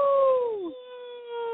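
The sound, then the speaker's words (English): A dog gives a single drawn-out howl on request, a clear tonal wail that slides downward in pitch and then holds a steady note, moderately loud, with no talking. “Give us a howl, Roof.”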